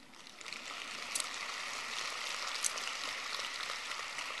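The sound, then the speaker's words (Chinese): An audience claps in a dense, steady wash of applause that holds at an even level for about four seconds, with a couple of sharper claps standing out and no voices. “哎呀，一听到财运好了就鼓掌了”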